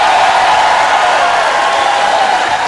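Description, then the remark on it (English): A loud crowd cheers and roars without a break, a dense wash of many voices holding steady at full volume from start to finish, with no single speaker standing out. “Well, I think the crowd liked it.”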